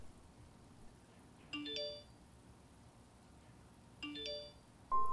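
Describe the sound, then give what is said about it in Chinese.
A mobile phone rings, its short electronic chiming melody repeating about every two and a half seconds, moderately loud against quiet with no one speaking. “咦，是手机响了吧？”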